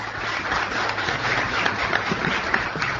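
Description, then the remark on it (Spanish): An audience at a touring discussion panel breaks into steady applause to welcome Dr. Carlos Maggi: a dense wash of many hands clapping at an even loudness for about three seconds, with no voices over it. “Le pido que lo recibamos con un aplauso.”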